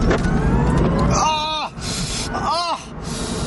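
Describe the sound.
A car engine roars loudly and steadily from inside the vehicle as it accelerates hard during a test drive in California, with a couple of rising-and-falling pitched surges cutting through, and voices can be heard over it.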